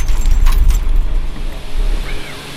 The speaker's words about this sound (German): Da wurde ein bestehender Windpark erweitert und eins dieser Windräder, das wird schon bald der Gemeinde gehören. Und wenn ihr jetzt dachtet, von außen betrachtet sind Windräder laut, dann nehme ich euch jetzt mal mit rein ins Windrad.